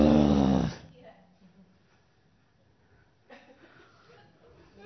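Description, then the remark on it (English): A person lets out a short, loud, throaty growl in imitation of an animal, lasting under a second, followed by a quiet pause and then soft talking. “That's not your new nature, by the way, to growl.”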